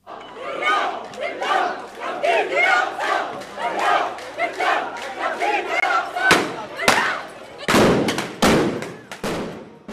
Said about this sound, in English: After it ended, some Palestinians started chanting, "With spirit and blood, we will redeem the Al-Aqsa Mosque." And I saw Israeli police firing stun grenades at the crowd. I saw Palestinians throw objects at police. This is what I tape recorded.